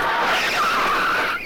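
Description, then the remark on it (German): A car coming too fast out of a garage rushes past with a loud, sustained tire screech, the high squeal wavering and sliding in pitch for over a second before cutting off abruptly. No one speaks. “Pass auf, ein Auto!”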